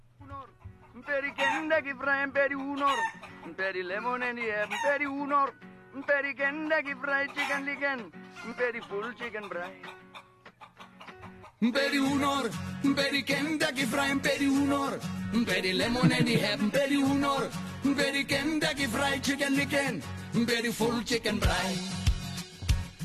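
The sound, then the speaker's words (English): An Afrikaans novelty pop hit song plays loudly, opening with a voice over sparse backing and chicken-like clucking and crowing sounds, then a fuller, denser band arrangement bursts in about halfway through. “It's a big hit. Afrikaans loved it. I'll play a little bit of it.”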